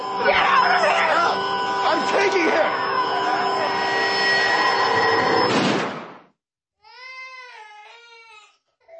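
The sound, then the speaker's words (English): A baby cries in wavering, high-pitched wails, first half-buried under a loud, dense wash of noise, then heard more clearly on its own after the noise cuts off. “You hear the baby crying in the background.”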